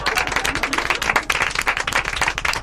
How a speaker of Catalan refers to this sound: Vinga, i aquest aplaudiment, continueu-lo ben fort,